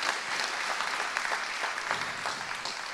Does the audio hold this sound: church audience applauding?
yes